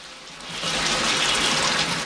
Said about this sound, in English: She turns a dial and water gushes out of a shower head above her.